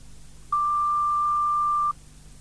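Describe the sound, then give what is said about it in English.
A single steady electronic beep from a technology centre's answering machine, a pure tone lasting about a second and a half, clear and fairly loud against faint background hiss. “Please phone back between business hours. That's 9 to 5.30, Monday to Saturday, or leave a message after the tone.”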